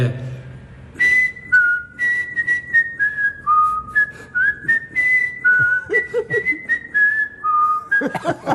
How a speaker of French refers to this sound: Alors ce petit sifflet, c'est un clin d'œil évidemment parce qu'à chaque fois qu'il arrive pour l'émission, il arrive toujours très en avance, ce cher Carlos Bianchi, toujours ponctuel